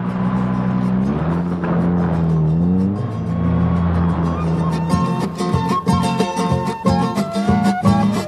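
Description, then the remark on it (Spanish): A car carrying a family of tourists drives from Ayaviri toward Tinajani, with a steady engine drone whose pitch rises and dips as it shifts, joined in the second half by loud rattles and knocks as if bumping over a rough road. “En el auto viajaban observando el panorama, apreciando la naturaleza, queriendo saber sobre las viviendas rurales.”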